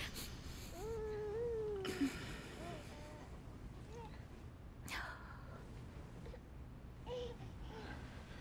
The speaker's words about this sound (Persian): چرا هر بار میخوام بغلش کنم گریه میکنه؟ کار اشتباهی میکنم؟ نه نه. آخه من هر بار که میخوام بغلش بکنم صدای گریهش در میاد.